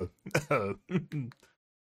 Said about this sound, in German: Jetzt hat er sich, hört er dieses überhebliche Räuspern?